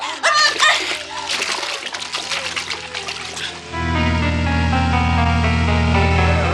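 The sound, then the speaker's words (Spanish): Loud, churning splashes of three people jumping from a sinking ship into the sea, hoping to be picked up by rowing boats, crowd the first few seconds, chaotic, then give way to sustained dramatic music that swells and holds to the end. “Los tres se lanzan al mar con la idea de ser recogidos por las lanchas de remos que navegan todavía cerca.”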